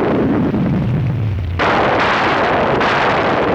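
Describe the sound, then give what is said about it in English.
A low, steady rumble gives way to a sudden, loud thunderclap from a freak thunderstorm that puts out a telephone pole fire; it bursts into a broad, roaring crackle and keeps rolling to the end, with no voices. “There's nothing dumb about a freak thunderstorm putting out a fire.”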